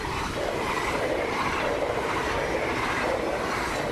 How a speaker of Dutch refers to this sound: Terwijl de spoorbomen naar beneden gaan, net buiten Bijster. Bij de ene kant kijk je uit op de VAM, de andere kant kijk je uit op het spoor.